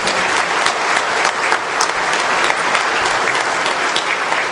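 Sustained applause from an audience, a dense steady patter of many hands clapping at full volume for several seconds, with no voices standing out.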